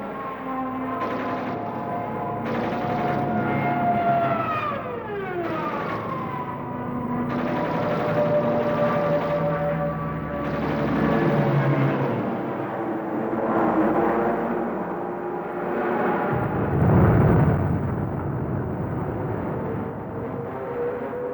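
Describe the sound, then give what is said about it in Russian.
An aerial battle between warplanes: droning engines with a falling, diving whine early on and sharp bursts scattered throughout, loud and continuous without any talking. “Он готов был встретиться в бою с одним, двумя, даже 10 вражескими самолетами сразу. И вот день сражения наступил.”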